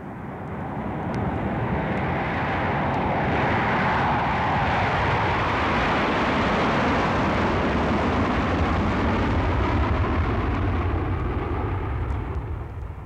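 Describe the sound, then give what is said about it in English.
Loud, steady roar of the jet engines of an Air Force C-141 military transport aircraft, a dense rumbling wash of noise that holds constant throughout with no voices. “The C-141 aircraft is a typical example currently in use by the Air Force.”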